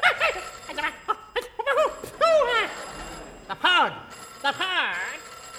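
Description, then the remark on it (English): A telephone bell rings in short, loud bursts, tangled up with high squeaky chirps and sliding voice-like whoops, busy for several seconds. “I thought you told me that that phone was unemployed. Ned, you take it.”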